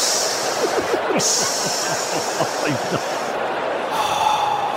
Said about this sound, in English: but the MCG has gone awfully quiet. Listen to this. 75,000 in the house, and it's just hissing.